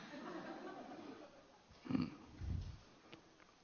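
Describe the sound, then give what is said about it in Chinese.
A small puppy makes soft, snuffly whimpering and sniffing sounds, with two short bursts a moment apart over a quiet background. “一旦不在，这个小狗它会怕，或是现在已经好玩，所以我就把它放在我的水桶里头。”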